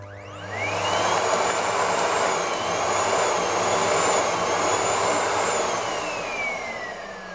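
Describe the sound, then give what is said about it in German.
A vacuum gun's motor whirs up quickly with a rising whine as it is aimed at someone, then settles into a loud, steady vacuum-like roar with a high whistle on top, easing slightly toward the end. No one speaks. “Bernd nahm Ellas Staubsauggewehr und richtete es auf sie.”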